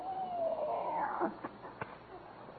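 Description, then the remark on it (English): A cat yowls in a drawn-out, wavering cry lasting just over a second, followed by a couple of short sharp clicks against a faint, hissy background. “Rochester, you feed the cat?”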